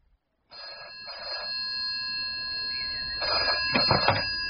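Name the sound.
telephone ringing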